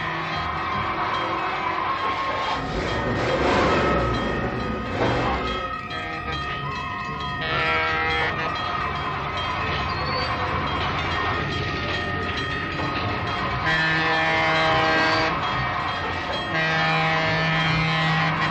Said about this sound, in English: Just as the train approaches, she backs up. She watches the train pass.